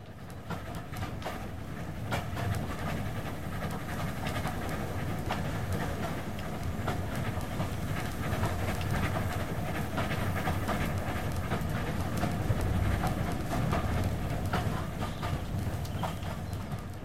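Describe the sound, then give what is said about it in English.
A moving train rumbles steadily along the track, its wheels clacking in a quick repeating rhythm over a constant low roar, fairly loud, with no voices. “It's the sound of the wheels of the train as it moves along.”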